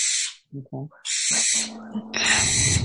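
An owl hoots a couple of times in short low calls, then gives a longer drawn-out hoot, heard over bursts of loud hissing noise through an accidentally unmuted call line.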